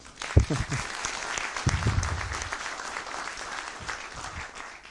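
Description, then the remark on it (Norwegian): An audience gives a small round of applause in recognition of competence, a dense patter of many hands at moderate loudness for several seconds, with a brief low voice or two showing through near the start. “Men det også en anerkjennelse av kompetanse, og det synes jeg også vi skal gi en liten applaus for.”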